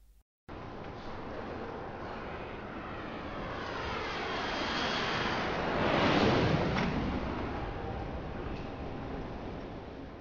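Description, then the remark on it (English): Ambience at Noi Bai Airport with a steady aircraft engine roar that swells to a peak midway, carrying sweeping whine tones as the plane passes, then eases off slightly. No one speaks. “I'm here at Noi Bai Airport to tell you about this amazing flying car.”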